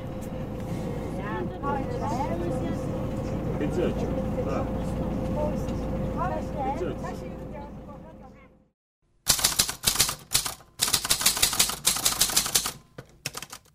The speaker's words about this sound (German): Die Gespräche der Fahrgäste und das Geräusch des Motors vermischen sich immer mehr. Es ist laut und unbequem im Bus.